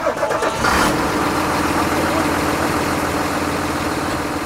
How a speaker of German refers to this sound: ein Trecker in der Stadt. Das ist und bleibt ein eher seltener Anblick und ein seltenes Geräusch.